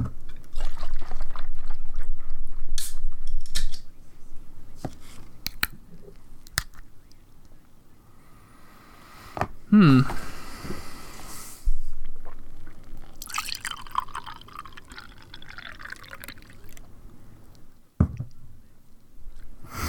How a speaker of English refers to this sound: should we take a sip? Yeah, sure.